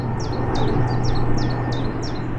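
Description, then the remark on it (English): A bird repeats short, high chirping notes in a steady rhythm, about eight of them, over a loud, continuous low roar of an airplane passing overhead. “in the first recording he's singing without any background noise, and in the second recording he's singing while an airplane goes overhead.”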